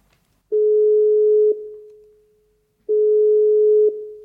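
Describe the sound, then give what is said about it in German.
Two long, steady electronic ringback tones, each about a second, separated by a pause of over a second, heard alone and fairly clear, as a mobile phone is rung on the other end of a call. “Sue, ruf Lilis Handy an.”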